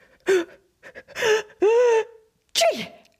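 A voice acts out a sneeze: a few rising, breathy 'ah' build-ups with a sustained voiced tone, then a sharp, loud 'choo' burst at the end, with no talking.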